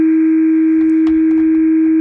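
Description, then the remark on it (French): A telephone ringing tone as a call is placed to the spokesperson of the Union pour un mouvement populaire party in France: a steady, unbroken single-pitched hum that holds for the whole two seconds, with a few faint clicks and a soft line hiss underneath. No one speaks. “on va téléphoner à son parti, au porte-parole de son parti, à l'Union pour un mouvement populaire.”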